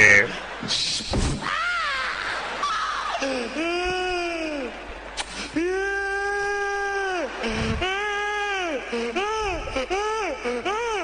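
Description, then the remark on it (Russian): An adult voice imitates a whining, crying child: a series of drawn-out, wavering wails and whimpers, rising and falling one after another, loud with brief gasps between them. “Почему дети двигаются так медленно, когда плачут? Хватит издавать эти звуки!”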